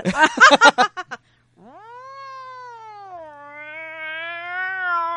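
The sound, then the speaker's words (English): A person does a long, drawn-out cat caterwaul, a loud, wavering yowl that holds for several seconds and rises slightly at the end, just after a quick flurry of short choppy vocal sounds. “You really are a cat lady.”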